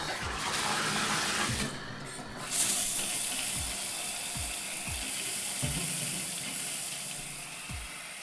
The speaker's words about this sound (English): Okay, now that I know what I'm getting into and I have nothing to fear, I'm ready for the shower.